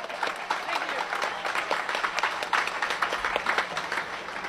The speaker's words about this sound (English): Another round of applause, folks.